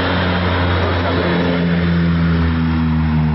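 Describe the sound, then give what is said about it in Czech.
A steady, loud droning roar of the propeller engines of a Ukrainian Antonov 32P firefighting aircraft with an 8,000-litre water capacity, dropping water on fire-hit areas around Obosnik, Zabrđe and Krašići, with low humming tones under a broad wash of rushing noise that holds constant throughout, no voices. “Ukrajinski protivpožarni avion Antonov 32P, koji ima kapacitet od 8000 litara vode, od jutros je u punom pogonu i stalno nadlijeće lokacije pogođene požarima i izbacuje takozvane vodene bombe na području Obosnika, sela Zabrđe i Krašića”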